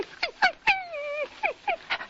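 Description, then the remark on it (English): A man imitates Asta, the wire-haired fox terrier of The Adventures of the Thin Man, whimpering and begging for attention: a string of short, high, falling whines around one long, quavering drawn-out whine, fairly loud, with no talking. “Asta begs for attention.”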